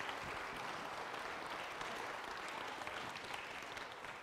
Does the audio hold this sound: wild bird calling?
no